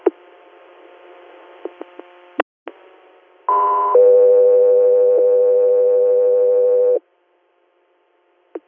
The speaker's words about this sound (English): stand by for tones.